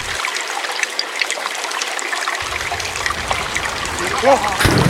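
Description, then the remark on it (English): Steady water trickling and babbling, a continuous soft gurgle of flowing liquid with small splashes, ending with a brief voice toward the end. “Get you, Bigfoot, out that water”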